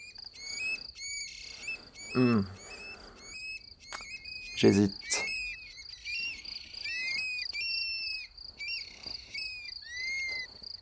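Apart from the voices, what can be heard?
song thrush singing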